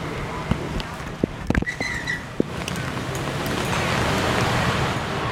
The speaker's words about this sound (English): Oops, raining again. Get my umbrella out.